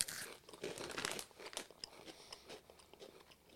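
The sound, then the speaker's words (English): Crunchy bites into a dried bean snack, with a burst of sharp crackling crunches followed by quieter, irregular chewing crunches and faint crinkling, no voices. “This tastes like pre-war Korea.”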